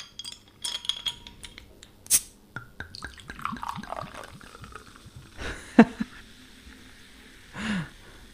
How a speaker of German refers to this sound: eine sehr kühle Limo-Flasche, Soda Libre The Basil, Basilikum und Zitrone. Das machen wir jetzt mal auf hier. Moment, ich hole einen Öffner. Ich will das zischen. So, ich habe mir meinen original mediterranen griechischen Flaschenöffner geschnappt.